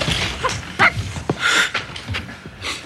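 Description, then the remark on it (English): A dog whimpers and lets out several short, sharp barks and yips in uneven bursts, fairly loud, with no one talking. “But Nicholson has at least been helping out a little bit by walking your dog, even though he hates dogs.”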